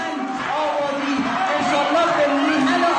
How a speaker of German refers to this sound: Ein Regierungssprecher wendet sich in einer iranischen Universität an Studentinnen, doch sie schreien ihn nieder.